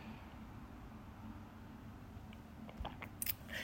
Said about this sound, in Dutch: En daarbij, ik ga ondertussen weer een slokje water nemen. Want ik zit natuurlijk veel te veel te praten. En dan krijg ik een hartstikke droge mond van.